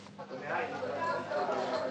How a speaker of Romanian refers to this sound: Ce se aude? Ce se petrece în stradă? De ce strigă mulțimea?